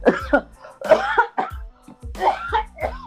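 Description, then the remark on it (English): A person clears their throat several times in a row, a run of rough, gravelly bursts with short pauses between them, fairly loud and heard on its own without talking. “Let me clear my throat.”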